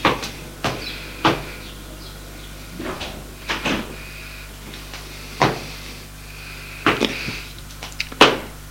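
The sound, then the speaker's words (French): Knocking on a wooden door: sharp raps spaced irregularly, some doubled, over several seconds, with a steady low hum underneath and no voices. “Elle a soupiré, frappa à la porte.”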